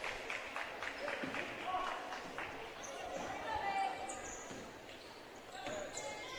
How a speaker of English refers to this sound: Clark Ivett will dribble the ball up the floor